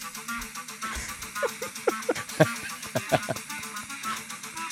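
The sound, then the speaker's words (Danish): An amateur clarinet recording played back from a phone: a halting run of short, honking notes in uneven bursts, some squeaky and sharp, over a steady hiss. “den her person har øvet sig rigtig meget på klarinet på noget, der lyder som et tog, der har det rigtig svært ved at komme op ad en bakke”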